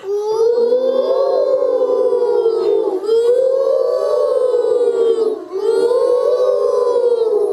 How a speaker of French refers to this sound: Le vent souffle.